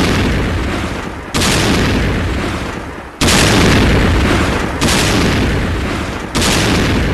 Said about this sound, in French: Mais moi, j'ai noté que c'est une transition avec des sons d'explosion, mais un peu comme dans les sons de chien dans Vampire Assassin.